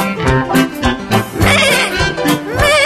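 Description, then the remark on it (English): A goat on a farm bleats several times, each call loud, nasal and shaky with a wavering quaver, the cries following one another closely with no talking. “It's a goat.”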